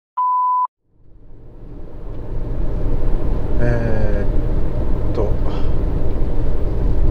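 A short electronic beep, then the steady low rumble of a car interior while driving toward the speaker's family home rises and holds, dense and continuous, with a brief faint tonal whine partway through.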